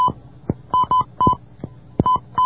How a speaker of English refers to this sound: Now I dial my 14-digit code.